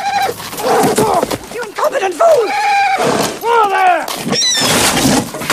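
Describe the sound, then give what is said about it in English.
A horse named Ginger rears with loud, shrill squeals and whinnies that rise and fall, knocking over a coachman, mixed with sharp cracking and splintering as she breaks the wooden shaft of a carriage amid the commotion. “Ginger rears, knocking over York.”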